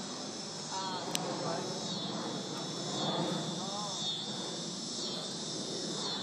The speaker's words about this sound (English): Go those cicadas.